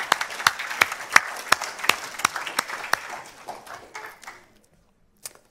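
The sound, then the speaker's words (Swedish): A church audience applauds the worship team and Jesus together after praise singing, a dense patter of clapping with a few sharper, louder claps standing out, tapering off after about four seconds, then one last isolated clap. “Ska vi ge dem och Jesus en applåd?”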